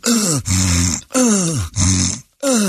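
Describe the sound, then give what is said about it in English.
A voice imitates loud snoring with five rhythmic, throaty grunts, alternating a falling groan with a low, steady drone, each about half a second long with brief gaps between. “He was snoring.”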